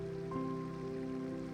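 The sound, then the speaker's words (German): A continuous, gentle babble of crystal-clear brook water, fed by winter snow, trickling over stones and through small hollows, steady, with soft sustained musical tones humming beneath it. “Es fließt über Steine und durch kleine Vertiefungen. Ein stetes Plätschern und Murmeln, das dich tief entspannt.”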